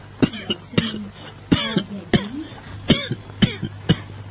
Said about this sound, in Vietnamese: Đại sư ho vài tiếng rồi nói tiếp